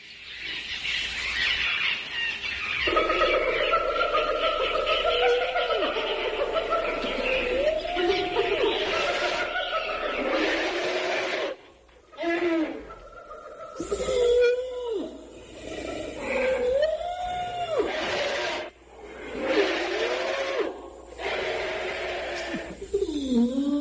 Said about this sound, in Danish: Vi skal lige høre nogle af de der lyde, som Voyager-pladen, guldpladen, indeholder.